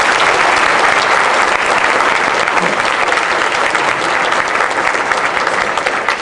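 Loud, sustained audience applause, a dense wash of many hands clapping steadily for about six seconds with no clear pauses or individual voices standing out.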